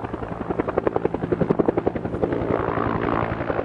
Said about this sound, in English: Helicopters dipped huge buckets into a pond at the south end of town, then lifted the water over a ridge that separated the village from the flames. It was a process repeated for hours.